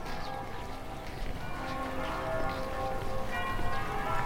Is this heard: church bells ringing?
yes